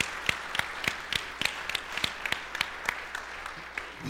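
An audience claps along in a steady, even rhythm, sharp crisp claps roughly three per second over a soft bed of scattered clapping, tapering off toward the end.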